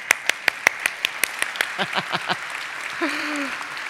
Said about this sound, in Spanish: ¡Feliz Día del Padre! ¡Papás! ¡Qué mejor manera! Bueno, les aplaudimos de una vez.